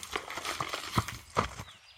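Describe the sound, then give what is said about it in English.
Horse hooves clip-clop at a slow, steady walking pace, each hollow strike distinct, about five steps before the sound falls quiet, as a rider arrives at the governor's mansion in Frankfort, Kentucky, in 1845. No one speaks. “You tie up your horse, take a deep breath, and approach the estate.”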